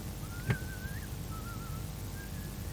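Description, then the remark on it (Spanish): Someone whistles a slow melody in a few gliding phrases with short pauses between them, fairly soft against a low background hum, with a brief knock near the start. “no era cantante, sino el mejor silbador del mundo.”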